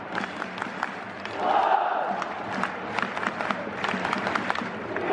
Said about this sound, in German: Auch im weitläufigen Shanghai Stadium hätten die rot gekleideten Ultras des Vereins SIPG wieder ihre Lieder gesungen. Rhythmischer Applaus, riesige Fahnen, aufwendige Choreografien. So wie bei jedem Heimspiel in den vergangenen Jahren.